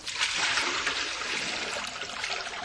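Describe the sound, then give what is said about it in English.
Water from a pan is dumped steadily into a sink and down the drain, a continuous splashing rush with a bright hissy texture, fairly loud, lasting a few seconds without any talking. “Dump in the water out of the pan into the sink.”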